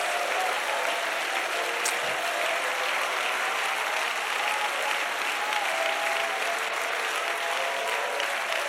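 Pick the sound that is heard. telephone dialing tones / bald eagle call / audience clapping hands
audience clapping hands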